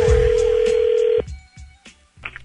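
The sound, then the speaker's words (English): A steady telephone tone holds for about a second, then cuts off into a quick series of short dialing blips and clicks before a call, clear with no voices. “I'd be careful answering that call.”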